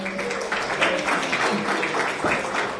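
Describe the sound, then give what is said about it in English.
An audience claps for Connor Owen, steadily, a dense wash of many hands at an even, fairly loud level that carries through the whole moment without fading. “Once again, a round of applause for Connor Owen, thank you.”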